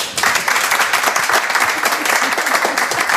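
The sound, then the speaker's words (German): Steady, loud applause from a broadcast show's audience welcoming a guest, a dense wash of many hands clapping that holds at an even level for about three seconds without a break. “Ja, schönen guten Abend und danke für den Applaus.”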